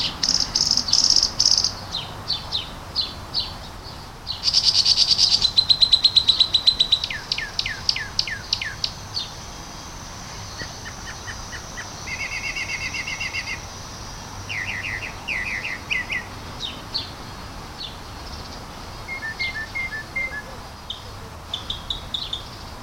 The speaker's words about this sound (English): I'm standing under a tree because I heard this incredible chorus of birds. And or maybe it's one bird with a very large repertoire.